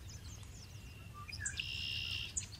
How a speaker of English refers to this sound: When I was a boy, there was a creek and a swamp where the river used to be. I didn't know. I thought it was just a fun place to play. Some birds there, they sang just like this.